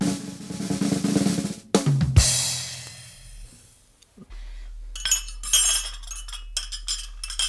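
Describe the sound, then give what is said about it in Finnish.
Tea pours in a steady trickle, then several bright clinks of sugar cubes dropping into china cups, one strong tea getting seven cubes, followed by a quieter stretch and then more scattered light tinkling against porcelain. “Vahvaa teitä minulle ja 7 sokerin palaa sekaan.”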